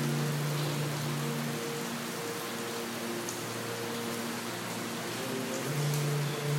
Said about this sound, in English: Imagine healing rain washing over you.